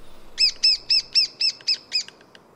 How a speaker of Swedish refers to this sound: Och så den mindre hackspetten. Och jämfört med den jättegnälliga göktytan så är det här gnälligt på ett lite rakare och bestämdare sätt. Pip, pip, pip, pip, pip, pip, pip, pip.